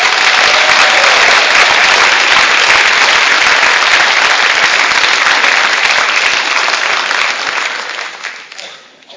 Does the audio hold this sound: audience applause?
yes